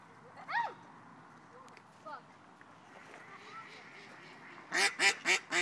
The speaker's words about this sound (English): One male duck chasing another male duck. Male ducks really fight sometimes.